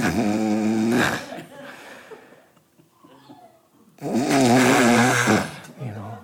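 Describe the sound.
A voice imitates a man's loud snoring: two long, rattling inhales with a quiet pause between them, forceful, with no words spoken.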